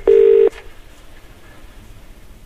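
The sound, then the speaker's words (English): A single loud, steady telephone tone sounds for about half a second, then cuts off, leaving only faint background hiss for the rest of the moment. “You got a phone call, didn't you?”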